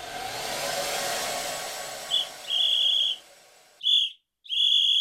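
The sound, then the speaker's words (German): Shrill, loud blasts of a referee whistle: a short chirp and a longer blow over a steady whooshing drone, then two more piercing blasts ring out clearly on their own once the drone stops. “Trillerpfeife?”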